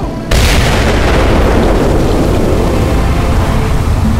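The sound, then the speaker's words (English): A dam is blown up, releasing a cascade of water into a cistern that surges over boats: one abrupt, loud boom gives way to a steady, heavy roar of rushing water, deep and rumbling, holding at full loudness for several seconds with no voices. “The dam blew, releasing a cascade of water that leapt out into the cistern like a live thing.”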